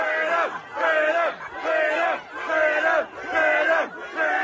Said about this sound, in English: There's a significant police presence there. A number of these protesters chanting freedom.